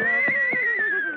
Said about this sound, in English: Look, Mr. Kitzel, is this your horse? No, I'm renting him occasionally from a riding academy, but he's a very